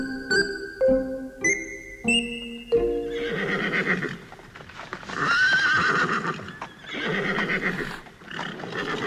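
Draft horses neigh loudly, with a series of bright, steady tones at the start giving way to a long, shrill, wavering whinny amid snorting and stamping. No one speaks.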